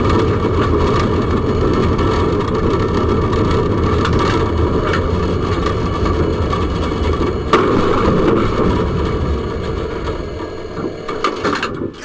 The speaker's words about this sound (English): She just plows into a car and all she does is power down the train. So if you wonder what a Russian train going into a car sounds like, it's a little like this.